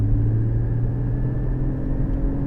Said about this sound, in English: The noise of the engine, like any Porsche should be, is addictive, and you'll find yourself driving it between just letting it roll along and then back on the throttle.